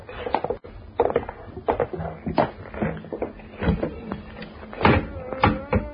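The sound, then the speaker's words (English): A trap door in the floor leading down to the cellar is hauled open: a busy run of wooden knocks, scrapes and creaks over several seconds, with a heavier thud near the end and no talking. “Hey, it's an opening in the floor. This trap door leads to the cellar.”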